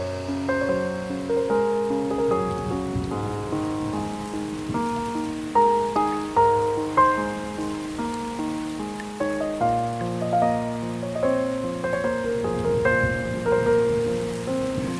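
Steady rain patters on a surface in the background, a soft continuous hiss beneath a slow, gentle piano melody that carries the foreground throughout, with no voices.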